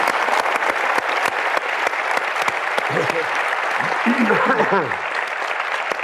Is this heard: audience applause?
yes